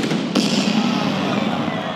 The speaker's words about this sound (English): And then the cannon goes off.